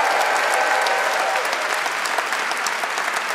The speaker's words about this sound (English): Thank you. And could we please have one more round of applause for all our guests tonight?